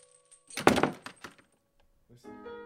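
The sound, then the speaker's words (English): A heavy door shuts behind people pushed into a room, a single loud thud with a brief rattling tail, then a faint tonal chime or music swells in near the end. “You guys are pushed into the room, and the door shuts behind you.”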